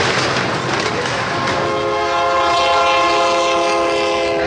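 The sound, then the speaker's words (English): A loud train rumbles past an ice house bar in San Antonio, Texas, and after a moment its horn blares in a long, steady, multi-toned blast over the clatter of the cars. “Every time the train passes, you get a beer for $1.25.”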